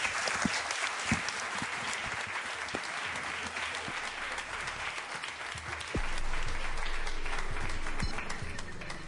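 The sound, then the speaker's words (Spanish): An audience applauds a program's guests steadily for the whole stretch, a dense crackle of many hands clapping at an even, fairly loud level that swells slightly in the final few seconds. “Gracias, un aplauso os pido para ellos.”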